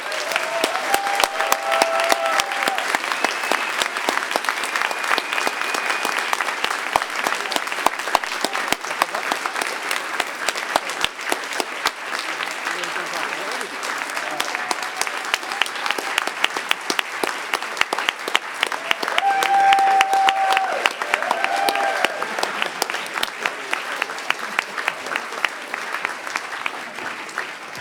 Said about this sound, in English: One final round of applause for our organizers and for you guys.